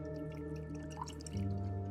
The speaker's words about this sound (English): She hands Charlotte a glass and pours her a drink.